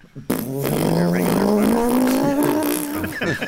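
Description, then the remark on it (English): A person imitates a motorized fart with a sustained, buzzing lip-trill that slowly rises in pitch like a revving engine, lasting about three seconds before sputtering out. “What's a motorized fart sound like?”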